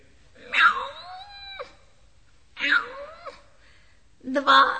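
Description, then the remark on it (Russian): A human voice imitates a cat with three drawn-out, wavering meows, each about a second long, separated by short pauses. The calls are fairly loud, with no other sounds. “Эй ты, кошка!”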